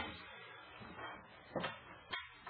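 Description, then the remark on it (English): A chair is dragged and shuffled into place, pulled up to a microphone, with a few short scraping knocks and thumps over a couple of seconds, fairly quiet and with no talking. “Oh, well, why don't you pull up that chair and get up here where people can hear you on the microphone.”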